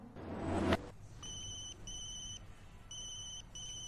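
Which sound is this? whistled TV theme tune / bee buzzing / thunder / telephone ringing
telephone ringing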